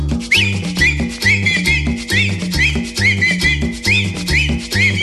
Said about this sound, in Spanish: Y ahora chiflando todo, chiflando todo.